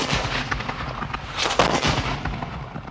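Continuous booming British cannon fire from steamers on the Waikato River shelling a pa from its flanks, with heavy blasts overlapping one another in a dense, chaotic barrage that stays loud throughout, a few sharper reports standing out near the middle.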